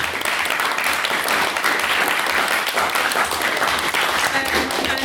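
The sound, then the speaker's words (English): A debate crowd claps steadily and loudly for about five seconds after a maiden speech, a dense, continuous wash of many hands with no break and no voices on top. “Thank you very much, and can we get another round of applause”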